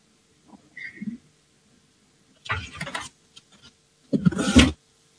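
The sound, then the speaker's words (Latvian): A loud electric bell in parliament rings in two short bursts, calling a vote on a bill amending the law on the Latvian Republic's enterprise register; each burst lasts just over half a second with a harsh, rattling buzz, separated by a brief pause, otherwise quiet. “Lūdzu zvanu, balsosim par likuma projektu grozījumu likumā par Latvijas Republikas uzņēmumu reģistru pirmajā lasījumā.”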